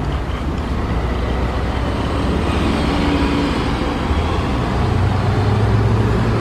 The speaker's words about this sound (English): Now there's traffic to my left. BMW looking like he's nosing his way out.